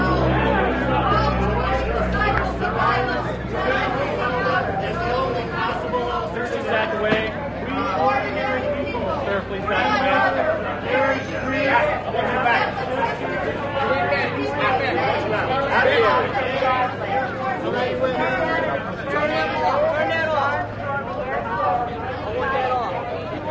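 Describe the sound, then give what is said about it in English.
A crowd being pushed back by soldiers as they handcuff protesters, Plowshares activists: a dense, steady hubbub of many overlapping voices, loud and continuous throughout, with a low rumble underneath and no single voice standing out. “The soldiers are pushing us back as well with the entire crowd as they handcuff the protesters.”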